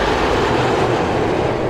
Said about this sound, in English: That wasn't an electric train.